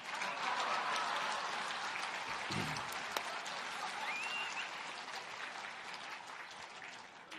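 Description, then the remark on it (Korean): An audience applauds at the speaker's request, a dense wash of many hands clapping that holds at an even, fairly loud level for several seconds before easing slightly toward the end. “자, 한 번 더 활짝 웃고 박수치고 말씀 듣도록 합니다.”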